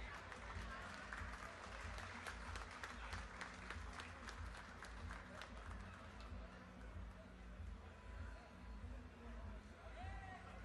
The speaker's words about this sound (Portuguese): Salva de palmas.